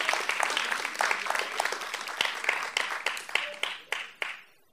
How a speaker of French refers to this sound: Voilà, donc un applaudissement aussi pour eux.